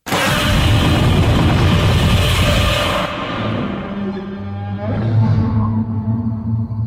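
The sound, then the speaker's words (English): Godzilla's roar, used to end a movie: a loud, harsh, rasping blast for about three seconds, then a deeper, drawn-out bellow that rises and wavers before trailing off. No voices. “Godzilla's roar. So good.”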